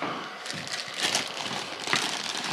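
A plastic bag is pulled from a pocket, crinkling and rustling steadily with a dense crackly texture and irregular bursts of louder crumpling, no talking over it.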